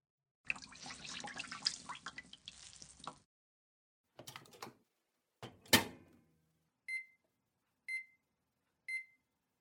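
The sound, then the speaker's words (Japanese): Running tap water splashes for a few seconds as a towel is prepared, followed by two sharp clunks like a door shutting, then three evenly spaced electronic beeps from a microwave used to heat it into a hot steamed towel, clear with no talking. “それじゃ、最初は軽く蒸しタオルで。ちょっと待って。”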